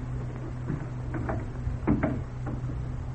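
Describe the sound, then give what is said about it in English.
A door is pushed shut with a solid clunk, followed by a few sharp metallic clicks and rattles of a lock being turned to lock a woman out, over a low steady hum. “I'd better lock her out away from Isabel.”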